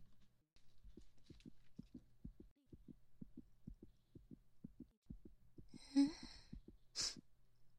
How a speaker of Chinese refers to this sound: 怎么回事啊？你这心跳也太快了，怎么搞的？